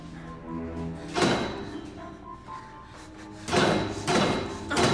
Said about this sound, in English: With a second folding chair, he hammers at the metal pipes.